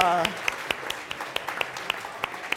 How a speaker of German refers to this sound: Und? Wird er es schaffen? Applaus, ein Treffer.